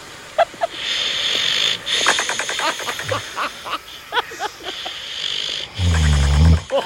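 Loud, rasping snoring, with ragged wheezy breaths rising and falling over a steady background hiss, ending in a deep, rumbling snort.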